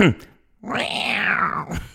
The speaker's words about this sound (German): Da hast du die Vögel hinten drin, die dir anzeigen, piep, piep, piep, piep, piep, da bist du zu nah. Der hat eine Katze eingebaut, die einfach miau.